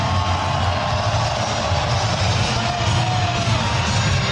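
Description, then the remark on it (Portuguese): A large stadium crowd applauds in a steady, dense roar as player number 3, Wagner Leonardo, is announced, with a faint undercurrent of scattered booing from a few people mixed in beneath the clapping and cheers, holding constant throughout. “Também tem um pouquinho de vaia, baixinho, mas tem, pouca gente. Maior parte são de aplausos.”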